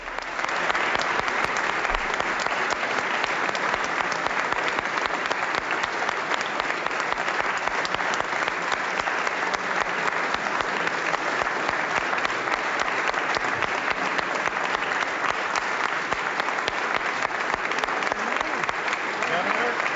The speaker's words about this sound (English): I can see now that the governor is entering the chamber. Let's bring up our feed, Diane, and we'll hear some applause.